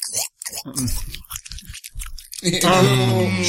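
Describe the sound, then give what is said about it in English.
Wet chewing of a huge bite of food near a microphone: crunchy, irregular bites and squelches for about two seconds, followed by a louder burst of muffled voices or laughter. “For people listening, give him the chew.”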